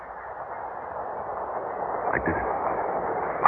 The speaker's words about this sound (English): The train's coming.